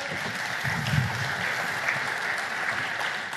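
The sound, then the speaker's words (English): A crowd claps steadily for a few seconds, a dense, even wash of many hands with a faint murmur of voices underneath. “And by the way, can we have a round of applause for his rather attractive pink shirt?”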